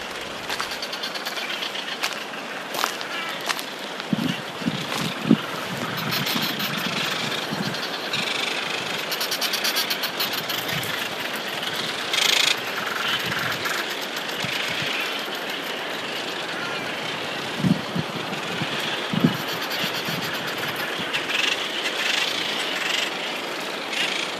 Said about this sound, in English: Janet sent in this recording of white-cap noddies. Now, these noddies are smooth black seabirds, sleeker looking than a seagull. They do look, though, as if someone has smeared semi-dried whiteout across the top of their head as they flew past.